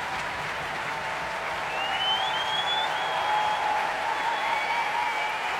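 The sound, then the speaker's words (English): The audience at the Royal Albert Hall applauds conductor John Wilson as he returns to the stage, a dense, even wash of clapping that holds at the same level for the whole stretch, with a faint high whistle drifting over it. “Applause for tonight's conductor, John Wilson, returning to the stage here at the Royal Albert Hall.”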